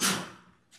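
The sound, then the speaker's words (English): A single sneeze, a sudden loud, breathy burst that fades quickly, followed by a faint short exhale. No one talks. “Bless you.”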